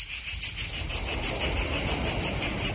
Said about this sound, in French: Et est-ce que vous savez en fait quelle est l'astuce ? Comment elle fait ? Comment elle chante aussi fort la cigale ? Pas du tout, je sais pas. Eh ben en fait, le ventre de la cigale est presque vide, et ce pour mieux propager son chant.